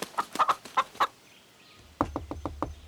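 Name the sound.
rooster crowing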